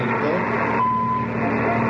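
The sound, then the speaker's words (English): A walkie-talkie radio gives a single steady, mid-pitched electronic beep lasting about half a second, signalling that the other radio is being called, heard over a continuous low rumbling hum that fills the whole clip. “And this sound means that the other radio is phoned.”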